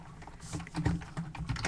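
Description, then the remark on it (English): Rapid clacking of keys on a mechanical keyboard, a steady stream of sharp clicks with no voices over it. “Yeah, I'll get to hear my deafening keyboard, which I'm definitely going to edit out or have edited out because mechanical keyboards is not a good look for a podcast.”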